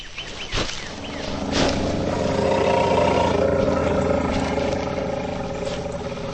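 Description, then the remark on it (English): A herd of mastodons led by their matriarch, just returned from their annual migration, roars and trumpets together in a dense, overlapping chorus of deep rumbling calls, with a couple of sharp blaring bursts early on and a steady loud din throughout. “A herd of mastodons, led by the matriarch, have just returned from their annual migration, hundreds of miles to the north.”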